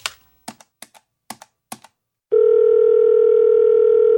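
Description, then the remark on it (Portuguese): A handful of quick, crisp button clicks in an uneven rhythm as a phone call is placed, then a loud, steady telephone dial tone hums continuously to the end, clear with no voices. “E eu sei para quem que eu vou ligar.”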